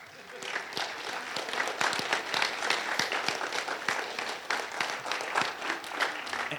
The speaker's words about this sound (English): So just thank you for all of the people who came. So can you just give the leaders a round of applause?